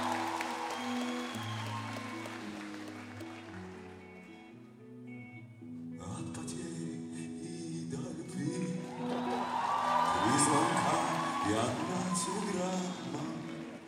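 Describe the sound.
A crowd breaks into applause and cheering, a dense clapping wash that swells in the second half, layered over steady backing music with a voice mixed in.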